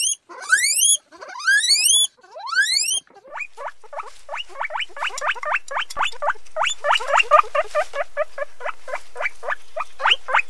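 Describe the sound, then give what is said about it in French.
A group of guinea pigs communicating squeal with three loud, rising whistles, then break into a rapid, steady stream of short chirping squeaks and chutters, with no one talking. “Pour finir cette chronique, je vous propose d'écouter un groupe de cochons d'Inde en train de communiquer.”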